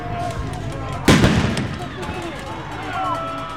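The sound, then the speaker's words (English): A single sharp, loud blast like a firework bang from a flashbang grenade, fired by officers toward the back of a protest crowd at an ICE facility gate and making red sparks, cracks out suddenly and echoes away over about half a second, with a noisy outdoor crowd and voices murmuring underneath. “The officers fired flashbangs toward the back of the crowd. They sounded like fireworks and made red sparks.”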